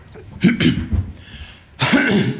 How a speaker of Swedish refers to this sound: Jag har pratat så mycket idag. Jag får lite hostattack här.